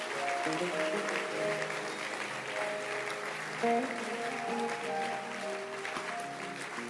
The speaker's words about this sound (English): Clap your hands for them. Let's clap and appreciate God.